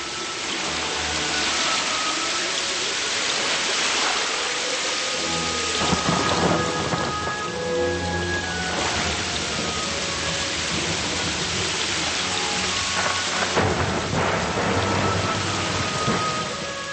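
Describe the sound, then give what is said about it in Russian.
Heavy rain pours steadily during a tour group's excursion, a dense continuous hiss, with low rumbles of thunder rolling underneath at intervals. No one speaks. “Такой случай на экскурсии, когда я везла группу, и попали мы в сильный дождь.”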